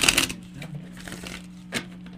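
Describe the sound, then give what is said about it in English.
A deck of cards being shuffled: a loud crackling riffle at the start, softer scattered flicks, then another short burst near the end over a low steady hum. “I'm going to go ahead and shuffle right away into your room.”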